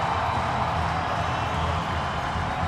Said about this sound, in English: A festive crowd here at the TD Garden. I'm going to say we're north of 12,000 fans here tonight.